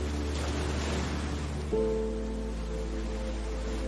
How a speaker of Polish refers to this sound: Słyszysz fale rozbijające się o brzeg.